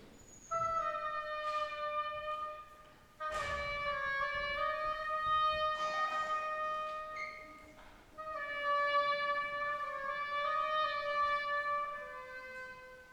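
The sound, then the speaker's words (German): An oboe plays the duck's theme from Peter and the Wolf alone, a slow, plaintive melody of held, reedy notes that swell and fade in a few phrases, with no voices. “Die Ente durch die Oboe.”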